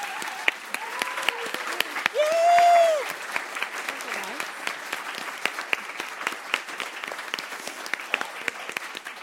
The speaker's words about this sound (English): Please join me in welcoming them with a big round of applause.